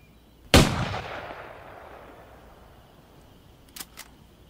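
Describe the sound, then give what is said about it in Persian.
A single loud gunshot cracks out sharply, then its echo rolls away and fades over a couple of seconds. Two faint, brief clicks follow near the end. “میخوای تیراندازی کنی؟ خب گوزنا فقط دوست دارم من تیراندازی کنم. شلیک نکنی، به من شلیک نکنی.”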